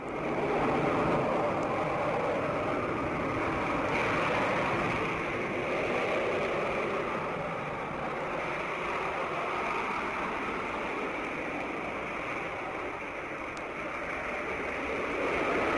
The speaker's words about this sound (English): Yes, yes, these jets make quite a different noise than our good ship, Happy Station.